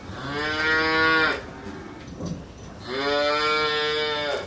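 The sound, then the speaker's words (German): A dehorned dairy cow with yellow ear tags moos twice in a barn, each call long and loud with a rich, droning tone, separated by a brief pause with faint background noise. No one speaks. “So ergeht es fast allen Kälbern in der Milchproduktion. Kühe ohne Hörner brauchen weniger Platz im Laufstall.”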